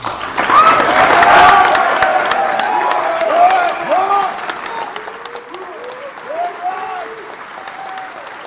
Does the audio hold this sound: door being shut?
no